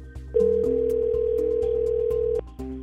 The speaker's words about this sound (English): It's going to ring once and you're going to go, oh God, I think I'm going to throw up. You're going to take a deep breath. The phone's going to ring again.